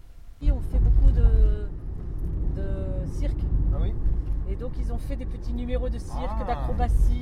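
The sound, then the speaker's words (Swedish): A car's low engine rumble starts abruptly and holds steady as people get in and drive off on the journey home, heard from inside, with indistinct voices talking over the hum. “Vi hoppar in i bilen och börjar resan hem.”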